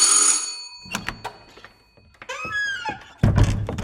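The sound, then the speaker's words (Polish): A bright, sustained doorbell ring opens, then fades into scattered thuds and knocks, a few warbling rising tones, and a sudden loud rumbling clatter at the end. “Wreszcie rozległ się dzwonek u drzwi i wpadł zdyszany Osiecki.”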